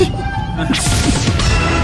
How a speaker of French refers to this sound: Peut-on entendre une baleine faire ses besoins dans l'eau ? Ouais. Apparemment, la réponse est oui.